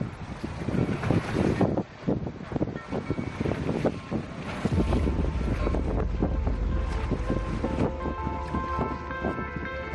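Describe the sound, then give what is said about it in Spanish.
Ocean waves wash continuously under strong gusting wind in San Francisco Bay during swimmer David Meca's 7.9-kilometre swim from Alcatraz, with heavy low rumble buffeting the microphone through the second half. The scene is loud, with no one speaking. “Estamos escuchando las olas y el viento que han acompañado este lunes al nadador David Meca en su última hazaña, escapar de nuevo de la cárcel de Alcatraz y llegar a la bahía de San Francisco, completando un total de 7,9 kilómetros”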